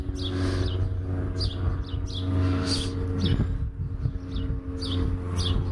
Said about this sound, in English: Wow, those birds are just singing their hearts out. It's wonderful.